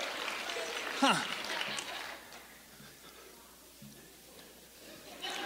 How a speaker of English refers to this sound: Give him a huge round of applause again, would you?